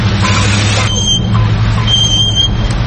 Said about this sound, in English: Don't let noisy brakes kill your mojo.